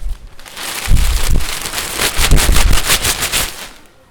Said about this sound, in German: So hört sich das Papier an, wenn es geschnitten wird.